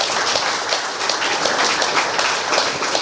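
A crowd applauds steadily for about three seconds, a dense, even wash of many hands clapping at once, fairly loud, with no voices standing out.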